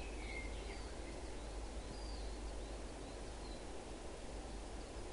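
Faint, scattered bird chirps and whistles rise above a steady rushing outdoor wash, like running water or wind. A few brief calls are heard, with no one talking.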